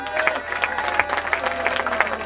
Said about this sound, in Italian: Un applauso